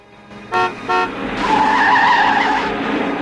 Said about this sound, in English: Felix is driven up and leaps out of a green sedan.